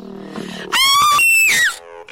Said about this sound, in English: Good grief! That scream! Wait, down there! Down there by that car!